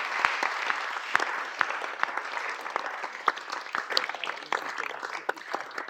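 An audience applauds steadily for several seconds, a dense, even patter of many hands clapping with scattered sharper claps standing out, sustained at a moderate level without voices, applauding Delaware's coming ban on single-use plastic bags.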